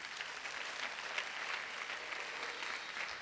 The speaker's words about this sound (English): Give her the best clap offering. You can do better than that for Jesus. Come on, church. You can do better than that for Jesus. Come on, clap hands for Jesus.